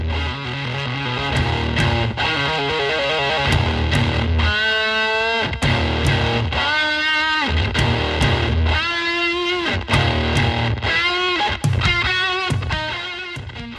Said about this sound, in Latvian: Līdz ar to tur veidoja šī skaņa, un mēs esam iebūvējuši pedālī speciālu antenu, kas šo te skaņu pārvērš atpakaļ audio signālā. Līdz ar to, principā, tā ideja ir, ka cilvēks spēlē elektrību, elektrības skaņu.